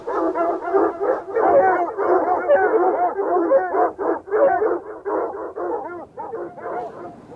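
Several hostile, hungry dogs bark and howl at once in a loud, dense, overlapping chorus that carries on without pause, sounding agitated.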